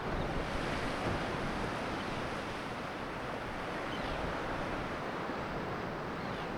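Loud, steady roar of waves crashing into the shore and cliffs of an island by a lighthouse on a very windy day, mixed with gusty wind buffeting the microphone. No distinct pauses between waves, and no voices.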